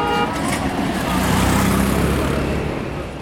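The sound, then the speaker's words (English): Several vehicle horns honk and overlap amid a steady roar of dense, chaotic road traffic in India, with engines rumbling and tones sounding at once throughout; drivers ignore lane markings among pedestrians, cattle, overloaded lorries, rickshaws and scooters. “The roads are total mayhem. Drivers ignore lane markings.”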